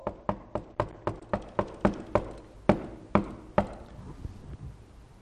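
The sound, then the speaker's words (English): A series of sharp knocks on a door, a quick steady run of about eight raps followed by a few slower, heavier ones that fade out. No one speaks. “And the Lord Jesus knocking on the other side of the door.”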